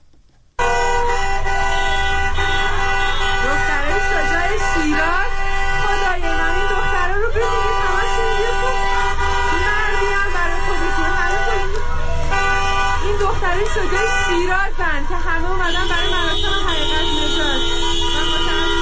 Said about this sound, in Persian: اما خیابان‌های اطراف از سوی مردم بسته شد و خودروها با بوق‌های ممتد اعتراض می‌کردند و مردم هم در خیابان‌ها راه می‌رفتند و شعار می‌دادند.